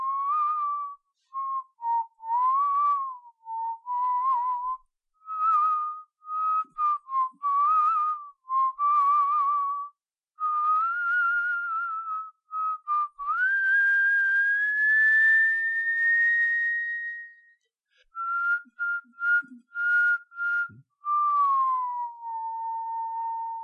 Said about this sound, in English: "Anything you like," said the footman, and began whistling.